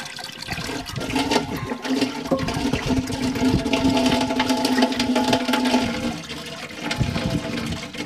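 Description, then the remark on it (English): A toilet with several pounds of mercury poured into the bowl from a flask is flushed: a steady, loud rush of water lasting several seconds, a low droning hum underneath, then the noise eases and gurgles at the end; the mercury does not flush away. No one speaks. “The toilet will not flush several pounds of mercury.”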